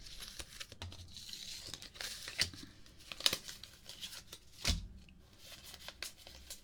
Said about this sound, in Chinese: 不像洗牌，不太会洗牌。发牌，